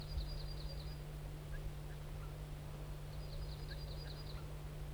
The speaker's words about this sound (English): There's a broad-winged hawk here, and there was some alarm calls by one of the birds. And now the hawk's drifting away. The crossbill wild bird gave some type 1 alarms and then flew up to a spruce. There he's giving alarms again.